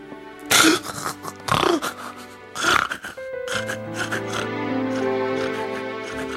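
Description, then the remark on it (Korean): A voice makes three loud, harsh, snorting squeals in a rough rhythm, imitating a pig at the end of an acted farewell scene in place of sobbing, followed by steady sustained tones that continue to the end. “마지막에 오열을 하시는 게 아니라 돼지 우는 소리를 내셔가지고 저는 오열을 이렇게 완전히 망했어요.”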